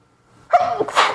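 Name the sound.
sneeze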